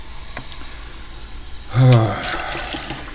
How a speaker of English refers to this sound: And there's a water bowl over here, too, that I'm going to refill. Because if there's one thing my cat loves, it's the delicious, delicious kitty water.